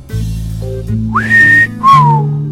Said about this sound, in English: I whistle at that news.